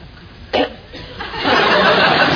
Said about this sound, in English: Sorry, Percy? Nothing, my lord. Just clearing my throat.